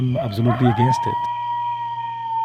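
Coyotes howling at night in the desert: a quick run of excited, wavering yips gives way to one long, steady, high howl that holds to the end, over a faint constant background hum.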